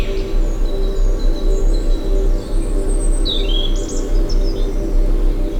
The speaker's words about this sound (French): Des gazouillis d'oiseaux, des insectes pollinisateurs et nous voici transportés dans ce monde végétal.